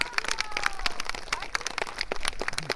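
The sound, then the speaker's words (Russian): Audience applause: a dense, steady patter of many hands clapping at moderate loudness, with faint voices mixed in underneath. “Наши аплодисменты, друзья.”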